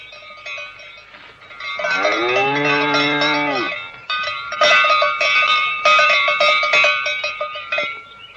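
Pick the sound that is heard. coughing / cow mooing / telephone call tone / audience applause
cow mooing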